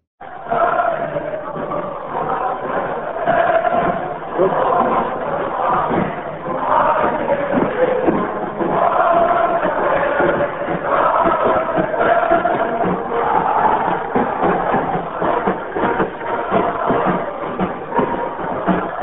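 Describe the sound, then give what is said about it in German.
A large crowd on the torch-lit Kaiserplatz roars and cheers continuously, with rhythmic chanting of Heil cries swelling through the dense, steady wall of many voices. “feuern jetzt immer Jubel zwischen den Fenstern herauf.”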